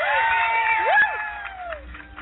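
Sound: audience applause and cheering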